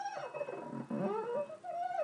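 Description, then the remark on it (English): A wet finger rubs the rim of a glass that is not a wine glass, producing a continuous, wavering whine whose pitch slides up and down like a whale song. It sounds alone, with no talking. “It's not a wine glass, so it doesn't quite do it justice, but it does try. Sounds a bit like a singing whale at the moment.”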